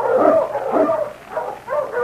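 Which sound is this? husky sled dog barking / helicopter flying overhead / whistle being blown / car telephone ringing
husky sled dog barking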